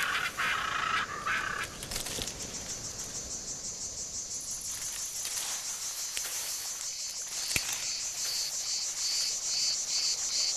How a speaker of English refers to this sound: Feeling charged with self-confidence after your swim, you walk into the jungle.